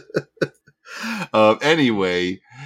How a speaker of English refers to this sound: Oh, see, that's why that cough. Yep. That's that smoke right there. That's what you get.